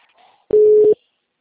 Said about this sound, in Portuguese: Não tá tocando aí seu telefone? Agora tá.